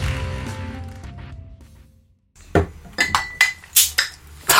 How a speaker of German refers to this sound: Ein Bier! Kling! Prost! Oh, es ist kalt!